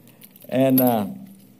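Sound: keys jangling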